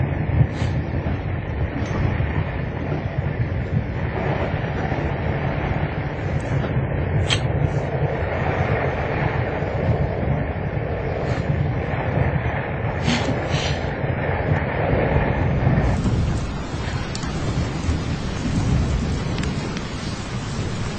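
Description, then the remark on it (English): A deep, sustained rumble of thunder rolls on for about twenty seconds while it rains, with steady hissing noise over it, shifting in tone near the end. No one speaks. “Is that thunder? I think I heard thunder.”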